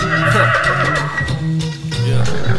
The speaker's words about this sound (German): nenn ich deine Mama Fury, fängt die Gute an zu wiehern